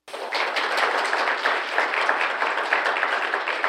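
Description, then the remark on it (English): A crowd bursts into steady applause for two guest performers, a dense wash of many hands clapping at once that holds at an even, lively level for a few seconds without any talking. “Let's give a big round of applause for these two.”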